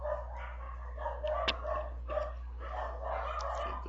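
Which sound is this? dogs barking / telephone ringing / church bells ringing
dogs barking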